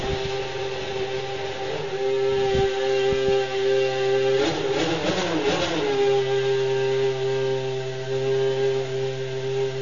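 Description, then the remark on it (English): A car engine on an installation lap at a race track in Spain in January, in pleasant weather, drones loudly and steadily with a strong harmonic whine, briefly turning rough and gritty midway before settling back into a sustained, high-pitched hum. No one speaks. “So I think the next thing we'll probably do is record the engine noise, get you ready for the season.”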